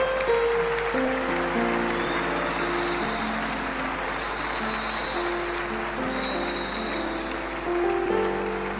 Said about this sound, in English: You are clapping so much for Him. What a day, what a blessing in God's presence. Keep clapping for the Lord, Church.